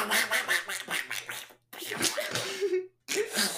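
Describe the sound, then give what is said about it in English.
A voice does a garbled, buzzy Donald Duck impression, quacking out rapid, unintelligible syllables in two close bursts separated by brief pauses. “I can't say anything like in that voice. I just mean like... So just completely unintelligible.”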